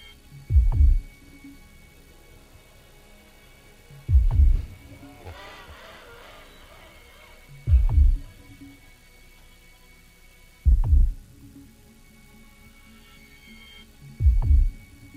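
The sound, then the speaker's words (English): A slow heartbeat: five deep, muffled low thumps evenly spaced a few seconds apart, each strong, with a faint tonal hum and a brief warbling sound in between. “Feel my heart beat.”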